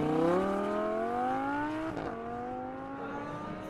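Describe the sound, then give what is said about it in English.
A Pininfarina sports car engine revs up in a steady climbing whine, drops briefly with a gear change about halfway, then keeps accelerating, loud with no voices. “Nice car. It's a Pininfarina”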